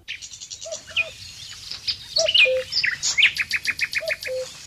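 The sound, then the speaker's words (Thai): Small birds chase each other and chirp and twitter busily on branches, rapid high-pitched notes in quick bursts with sweeping whistles, a lively overlapping chorus with no talking. “เสียงนกเล็กๆวิ่งไล่จับกันและส่งเสียงร้องด้วยความชื่นบานบนกิ่งไม้”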